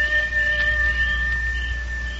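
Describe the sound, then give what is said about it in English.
A long, steady wolf howl holds a thin, high tone over a low background rumble, fairly faint, with no voices. “that there's either a real wolf out there, or else that's Nasha”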